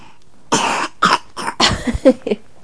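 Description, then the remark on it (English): A series of short, harsh coughs in quick succession, about five or six bursts, ending with smaller hacking sounds. “Cough.”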